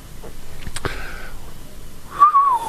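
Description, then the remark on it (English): Short whistled notes: a brief tone near the start, then a louder, wavering whistle that slides downward toward the end, with faint background noise and no talking. “I wish I could whistle for 5 minutes.”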